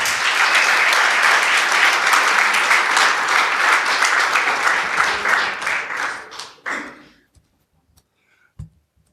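An audience applauds with dense, steady clapping for about six seconds, then the clapping thins out and stops, leaving a few stray claps and near silence.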